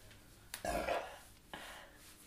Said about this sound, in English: One more burp.